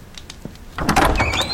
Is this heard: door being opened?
yes